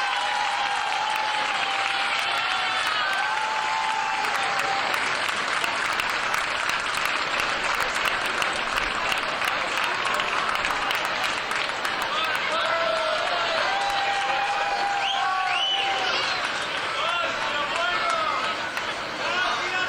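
A large crowd applauds steadily and loudly for the full stretch, dense clapping mixed with cheers and scattered voices, sustained without pause, welcoming this year's Festa Major proclaimer.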